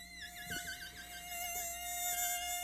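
A high, thin mosquito whine drones continuously, its pitch wavering slightly as it hovers, steady and fairly quiet with no other sounds around it.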